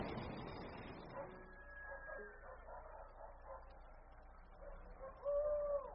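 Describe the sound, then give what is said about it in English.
A mix of farmyard animal calls at 3 o'clock, with chickens clucking, scattered dog barks, and a louder, drawn-out rooster crow rising at the end over a low background hum. “Those are chickens. Roosters. And dogs.”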